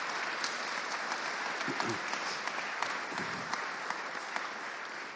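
An audience applauds, a dense, steady patter of many hands clapping at once that holds at a moderate, even level for the full five seconds, with occasional sharper claps standing out.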